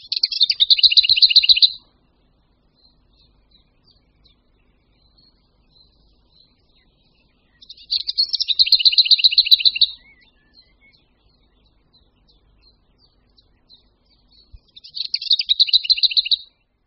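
A lesser whitethroat sings three short, dry rattling trills of rapidly repeated high notes, each about two seconds long and separated by long pauses, heard clearly and alone.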